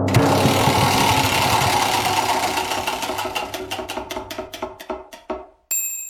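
A game show prize wheel spins with loud, rapid ratcheting clicks that gradually slow into widely spaced ticks until it stops on "restaurant", followed by a short bright chime.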